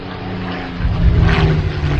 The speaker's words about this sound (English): And now, a World War II Japanese fighter plane.